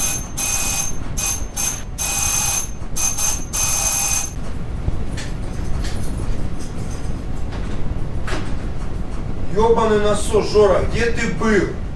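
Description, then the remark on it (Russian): A doorbell rings loudly in a rapid series of short, shrill, buzzing bursts for about four seconds, then stops; muffled noise continues and a voice briefly sounds near the end. “О, тихо, кто-то звонит в дверь.”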